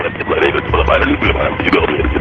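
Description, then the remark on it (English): A crackly, narrow-band radio transmission full of hiss and distortion, with muffled, garbled voices barely coming through the steady interference for a couple of seconds. “And what that does is sometimes it interferes with the audio.”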